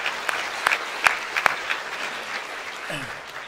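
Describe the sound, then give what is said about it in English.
An audience applauds to thank a guest for being with them, a dense wash of clapping with a few sharper claps standing out, steady and moderately loud, fading slightly toward the end. “Can we thank him right now for being with us?”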